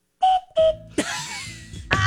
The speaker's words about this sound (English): It's the Flossy Dickie version of the sound effect. Yeah, I'm tired. That whistle is tired.